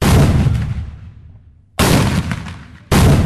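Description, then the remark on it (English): Loud booming blasts of ceremonial cannon and musket fire by modern-day reenactors at Fort Gaines near the mouth of Mobile Bay, one heavy report decaying over a second and a half before two more sharp blasts follow in quick succession, with no voices. “The sounds of cannons and muskets near the mouth of Mobile Bay are just ceremonial.”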